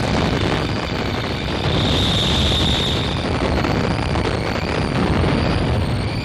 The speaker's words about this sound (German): Explosion.